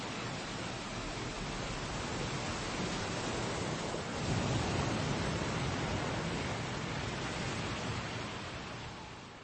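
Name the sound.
ocean waves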